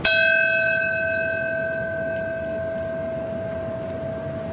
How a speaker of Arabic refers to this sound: في موقع المركز السابق قرعت الأجراس في 8:46 صباحا، وهي اللحظة التي ارتطمت بها الطائرة الأولى ببرج المركز التجاري العالمي.